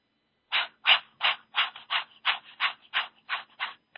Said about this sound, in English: And then the other breathing that I was exploring today is called Kapha Bhati. And it's a sort of an exhalation breath that comes from your diaphragm. And it sounds like a panting dog. It sounds like this.